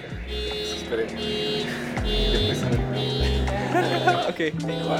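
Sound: car alarm going off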